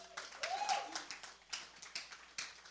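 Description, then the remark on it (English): A crowd applauds in honor of the speaker's wife with scattered, uneven claps that keep coming in bursts. A short rising whistle or cheer cuts through early on, and the whole thing stays fairly soft. “Can you help me give her a round of applause?”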